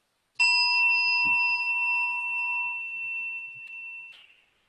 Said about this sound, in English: Let's do a gong. I brought one. And the question is, where is the hearing taking place? Does our mind go to the gong to hear it, or does the gong come to our mind to hear it?